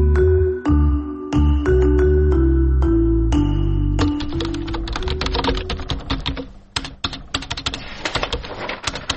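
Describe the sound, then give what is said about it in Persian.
Keys clack on a computer keyboard, a few spaced strokes over a low humming tone at first, then a fast, steady flurry of close, crisp typing that runs to the end. “اوف، کاری تایپینگ هم از یک هفته مانده، بیخی دلم تنگ سا.”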